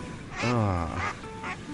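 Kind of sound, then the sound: bird, agitated ducks quacking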